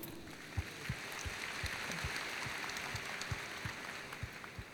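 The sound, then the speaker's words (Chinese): A crowd applauds steadily for several seconds to welcome a speaker, a soft, even wash of clapping with a few sharper claps standing out now and then, fairly quiet overall and with no voices. “我们掌声欢迎”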